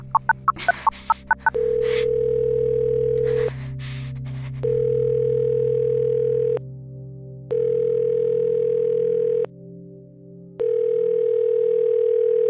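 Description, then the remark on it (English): A woman dials a number on her phone: a quick run of keypad beeps is followed by an outgoing call's ringback tone, a steady electronic purr repeating about five times with short pauses, clear with no voices. “Even with her whole body shaking, she managed to dial a number.”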